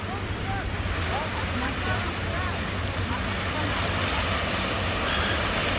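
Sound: ocean surf waves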